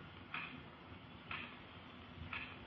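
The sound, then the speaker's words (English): A clock ticks softly three times, evenly spaced about a second apart, over a faint steady hiss in an otherwise quiet room. “I could hear the clock ticking away the seconds.”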